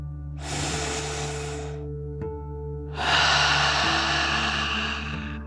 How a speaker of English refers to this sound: We'll start by taking a deep dragon breath together. You'll breathe in through your nose, filling up your lungs, and then out through your mouth, pretending you are breathing fire like a dragon. Ready? Deep breath. In and out.